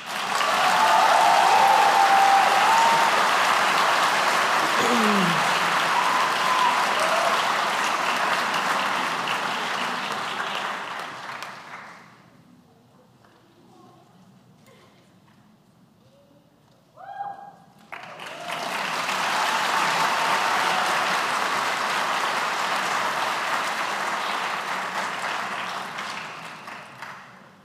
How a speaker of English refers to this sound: So we're going to wait just a moment, and we're going to give our master's and PhD students the same energy round of applause that we gave our undergraduates to show our appreciation for the hard work that they've put in to getting their graduate